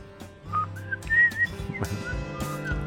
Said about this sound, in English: Whistle some more, and then I'm turning you off, okay?